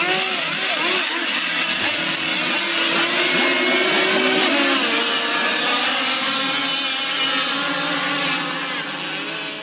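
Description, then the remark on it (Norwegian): Loud, high-pitched motorsport engines from Malaysia, in a very niche kind of motorsport, whine and rev continuously, pitches sweeping up and down as several seem to overlap in a dense buzzing roar, with no voices. “Jeg har vel innrømmet at det hentet fra Malaysia, som sagt, og at det nok noen slags motorsport av den svært smale sorten.”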